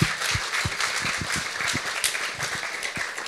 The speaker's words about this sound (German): Bravo, Applaus für die drei.